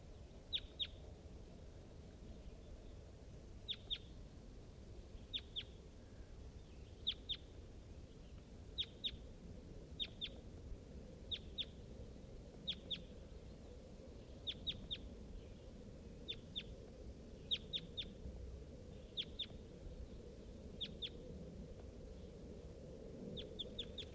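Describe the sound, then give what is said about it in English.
A wild crossbill, recorded close to the bird east of a net site on a hilltop, calls over and over with short, sharp, high-pitched notes, some in quick pairs, repeating every second or two against a steady low rumble of background noise. “I'm really near that bird now. Wild bird.”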